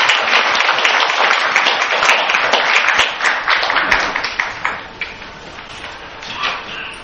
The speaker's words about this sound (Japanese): それでは、皆さん、拍手を持ってですね